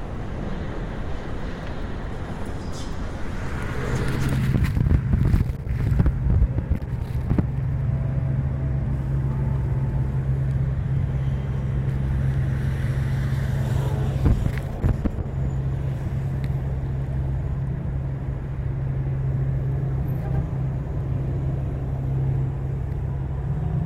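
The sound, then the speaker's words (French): A steady low rumble of road traffic, heard from below street level with the source out of sight, drones throughout, with a constant hum underneath and a couple of brief louder swells as vehicles pass. No one speaks. “je crois que 90% des sons de la circulation ont disparu”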